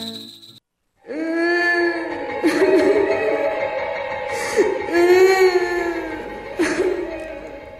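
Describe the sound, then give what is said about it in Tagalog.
An eerie, drawn-out wailing cry, the operator's new intro for the radio show Solero Nair, rises and falls in long, quavering moans, loud and sustained for several seconds after a brief tone at the start. “Ikaw ba yung umiiyak, classmate?”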